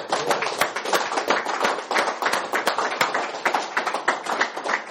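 A crowd gives a sustained round of applause, many hands clapping in a dense, irregular patter that stays steady and fairly loud for the whole stretch, with no one speaking.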